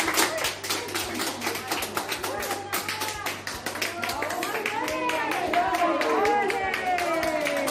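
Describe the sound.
Hospital staff give steady applause to a young patient being taken to her mother's room after 12 days apart: dense quick claps run the whole way through, with excited voices and cheers rising over the clapping in the second half.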